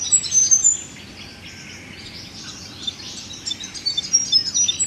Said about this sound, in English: I think the spinebill's call also sounds like the way they move around. That rapid piping sounds like they're in a big hurry